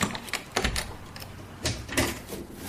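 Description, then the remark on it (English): A door is opened, with a quick series of sharp clicks and rattles from the latch and handle, fairly quiet and with no voices. “Oh, open the door then.”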